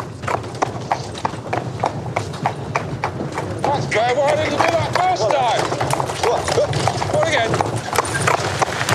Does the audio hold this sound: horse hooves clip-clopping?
yes